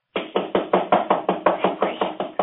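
impact, knocking on a door

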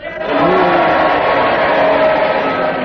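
crowd, audience cheering

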